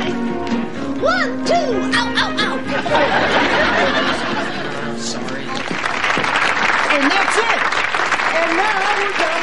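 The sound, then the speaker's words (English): A crowd applauds three finalist couples in a dance contest loudly and steadily for the whole stretch, a dense wash of clapping mixed with cheering and excited chatter, with a few rising whoops near the start. “A rousing round of railing applause for our 3 fabulous finalists.”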